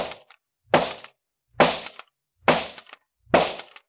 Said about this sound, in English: Oh, boy, look at that. 5 shots and 5 bullseyes.